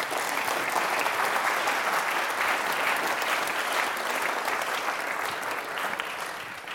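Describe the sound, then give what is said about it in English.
A crowd claps steadily for several seconds, a dense, sustained wash of applause that stays loud throughout and eases slightly near the end, with no talking over it, as a speaker named Anthony is welcomed back up to the stage for questions. “Applaud for Anthony.”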